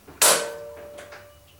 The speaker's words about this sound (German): Vorsichtig griff Heike an die Türklinke und entriegelte mit der anderen Hand das Schloss.